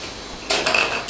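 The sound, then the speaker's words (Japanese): Glasses clink together in a toast: a bright tap followed by a few lighter knocks, with a short high ringing tone lingering after the first contact. No one speaks. “乾杯しよう、乾杯。”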